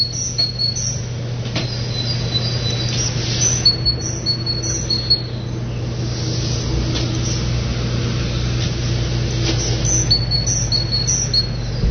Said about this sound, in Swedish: Vad är det där? Det är en talltipa. Jag vet inte, det är bara att gissa.